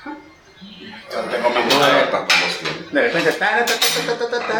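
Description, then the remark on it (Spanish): Plates and dishes clatter and clink repeatedly as they're collected from the table and carried away, with a bright, busy rattle of crockery and cutlery, and some low voices and a chuckle underneath. “Si gusta, te llevo los platos.”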